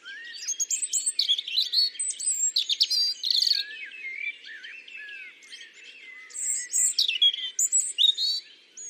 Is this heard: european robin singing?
yes